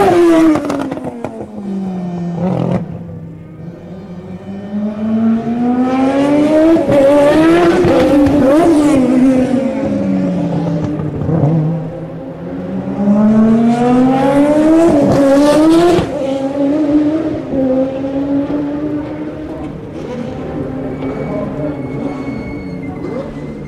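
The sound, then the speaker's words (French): A race car's engine revs and sweeps up and down in pitch, with sharp mechanical bursts during a pit stop, then loud high-speed passes in front of the pits roaring by and fading away. No talking. “Arrêt au stand, plus passage rapide devant les stands.”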